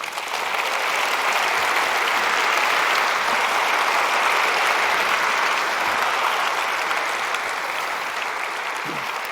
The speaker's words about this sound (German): Euer Applaus. Wunderschön. Dankeschön.